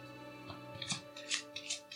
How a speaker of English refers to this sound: Okay, so let's shuffle these cards.